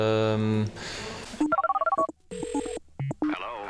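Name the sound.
telephone ringing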